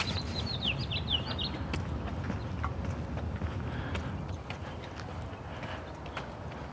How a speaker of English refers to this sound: Chirpy bird this morning. It's a beautiful blue sky day.